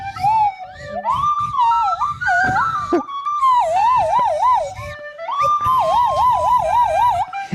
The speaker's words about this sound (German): jetzt nochmal ganz kurz die Nasenflöte hören. Ganz kurz, einfach mal einen Ton.